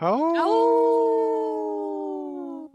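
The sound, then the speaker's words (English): A human voice imitates a wolf howl: one long, sustained, loud cry that swoops up at the start, holds a steady pitch, then slowly sags and trails off, with no talking. “Wait, I don't think Heather howled with us. Did you howl with us?”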